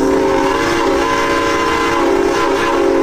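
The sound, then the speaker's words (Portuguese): A regular 1960s Soviet train on the line linking Beijing with Pyongyang rumbles steadily along the rails, a loud, continuous mechanical roar with sustained tonal hum layered over a dense, rattling low end, with no voices present. “Trajeto esse que é feito por um trem regular soviético dos anos 60.”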